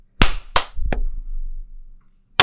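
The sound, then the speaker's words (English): Three sharp hand claps in quick succession, the third a little lighter, followed by a short pause and one more clap cut off at the end. No one speaks. “I clapped and then I realized it wasn't loud enough, so I clapped again myself.”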